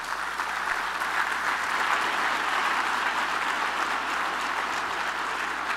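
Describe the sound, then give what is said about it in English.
A crowd at a party claps steadily and densely for the full stretch, applauding Fox 2's Jennifer Hammond and Dan Miller, a sustained wash of many hands at fairly even loudness with no voices breaking through. “A round of applause for Dan and Jen.”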